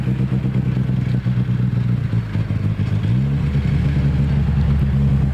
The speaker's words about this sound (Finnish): Ja ensimmäinen auto on tällä samalla erikoiskokeella nyt tulossa maaliin. Ja hän on Juha Kankkunen.